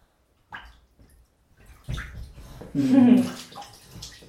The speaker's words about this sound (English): Splash, splash, splash. Kick your legs.